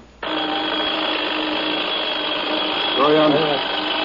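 An alarm clock rings loudly and without pause, a harsh, steady metallic buzzing that starts abruptly and keeps going at full strength to the end, with a brief wavering tone near the end.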